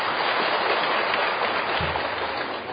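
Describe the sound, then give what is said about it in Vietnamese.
Heavy rain pours down during a Buddhist practice-day gathering, in a dense, steady roar of hiss, constant and loud throughout with no pauses or voices. “Bị mưa dồn dập an lạc không?”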